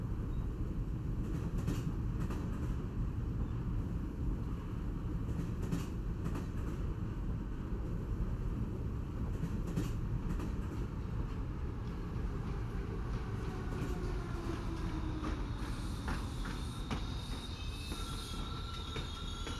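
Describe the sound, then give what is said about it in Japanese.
A train travelling from Nagasaki toward Kumamoto rumbles steadily along the rails, loud, with scattered clacks from the wheels and a high metallic squeal rising toward the end, at a station where it stops for inspection and maintenance. No one speaks. “この駅で列車の点検とメンテナンスのためにしばらく停車します。”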